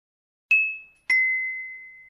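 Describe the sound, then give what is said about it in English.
A bell rings twice, two bright, clear dings about half a second apart, each fading slowly, the second sustaining longer, with no voices. “He is having dinner, but the bell rings.”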